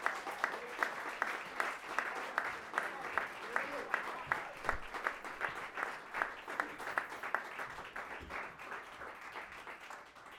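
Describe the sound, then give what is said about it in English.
A crowd applauds steadily for about ten seconds, dense clapping with a few louder individual claps standing out, fairly loud throughout, welcoming a musician and his group at a live music performance. “Let's give a great round of applause for ….”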